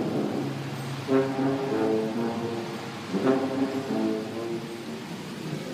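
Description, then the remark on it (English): A man plays a few long, low, brassy notes on a tuba that swell and overlap inside a tunnel, over a steady wash of rain and traffic noise, with no one talking. “It's raining, traffic's crazy, and I just walked or drove through a tunnel where a man's playing a tuba.”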